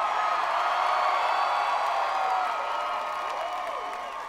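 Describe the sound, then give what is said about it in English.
An audience screams as if being swallowed by a whale, in a dense, sustained, high-pitched roar with a few rising and falling wails, loud throughout and easing off slightly at the end. “make people scream like they're being swallowed by a whale in many various places.”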